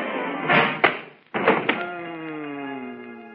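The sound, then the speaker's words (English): A large, heavy book marked Julius Caesar, dropped from a shelf, crashes down in a couple of loud thumps, followed by a sustained ringing tone that slowly slides downward in pitch as it fades. “Oh, look out! You're going to drop it!”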